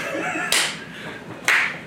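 Two sharp, loud hand claps spaced about a second apart, each a crisp slap that fades quickly, with a steady hiss of background noise in between and no talking.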